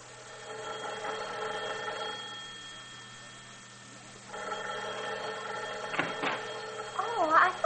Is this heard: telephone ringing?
yes